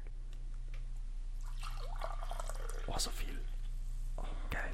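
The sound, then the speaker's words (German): Green tea pours into a cup, a splashy, trickling stream whose pitch rises as the cup fills, running for a few seconds over a steady low hum. “Apropos, darf ich mir von deinem geilen Grüntee eine Tasse einschenken?”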